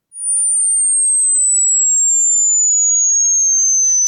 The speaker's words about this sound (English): They've looked at ultrasound, the very, very high-pitched noise generated by things like public address systems, automatic doors and spotlights. Here's a short, slightly lower-pitched version.